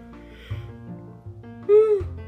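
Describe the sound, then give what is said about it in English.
A person yawns, a long voiced breath that stretches out and swells into a louder, higher-pitched groan near the end before trailing off. “Yawning.”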